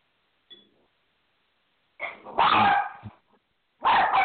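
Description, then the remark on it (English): A dog barks loudly in two bursts, the first a cluster of sharp barks and the second a single forceful bark, after a faint short yip at the start. “Someone has a dog barking.”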